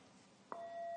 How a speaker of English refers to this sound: And after 2 minutes, I'll ring a bell. Okay, clear enough? So I'll ring a bell to start and a bell after 2 minutes.